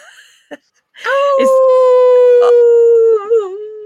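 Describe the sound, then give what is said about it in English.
A person lets out a long, sustained howl imitating a wolf, holding a steady pitch for a couple of seconds before wavering and trailing off, preceded by a few short clicks and breaths. “Listeners, your call to action this month is, I want you to howl.”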